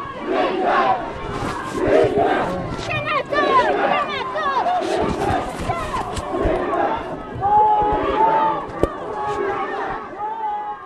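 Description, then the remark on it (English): A crowd of Tibetan protesters in Nepal shouts anti-Chinese slogans together, many raised voices overlapping in a loud, continuous roar with rhythmic surges and a few higher cries piercing through. “Dozens of Tibetans were arrested just for shouting anti-Chinese slogans.”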